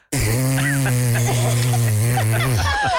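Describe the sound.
A voice imitates a long, loud fart with a steady low buzzing drone that holds for over two seconds before sputtering out with a few short bursts.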